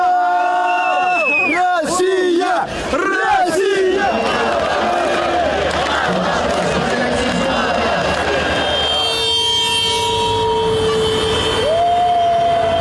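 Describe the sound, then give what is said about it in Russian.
A loud, dense crowd of Russian football fans cheering and shouting in celebration after the final whistle of Russia's 4-1 win over the Czech Republic, with wavering horn blasts and car toots cutting through at the start and again near the end. “После финального свистка фанаты дали волю эмоциям.”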